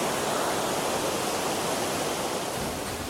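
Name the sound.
roaring waterfall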